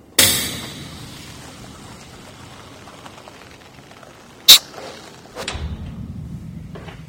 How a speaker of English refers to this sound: It's actually two above-ground sheds fortified by, well, I don't know what. Just listen as Dowd opens the door.